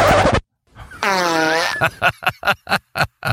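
After a short noisy burst, a loud, drawn-out buzzy fart rises slightly in pitch, then breaks into a rapid string of short sputtering toots.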